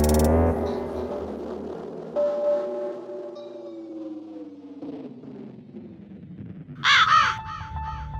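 A raven caws several times, harsh, hoarse calls, some drawn out and falling in pitch, with a loud burst of croaks near the end and no talking.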